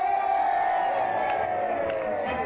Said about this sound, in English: Now that the cheers are dying down, we're about to hear the acceptance speech of our candidate, the Honorable Gracie Allen.